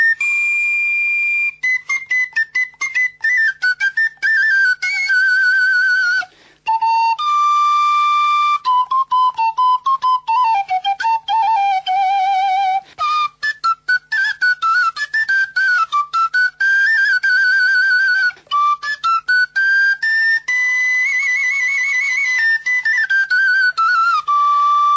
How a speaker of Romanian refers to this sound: Mai mult fluiera așa, dar nu știu, este mi-a plăcut cântăm.